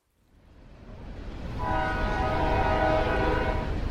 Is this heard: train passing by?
yes